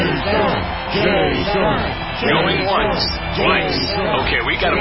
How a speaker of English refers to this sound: Cheering crowds surround you, calling out your name.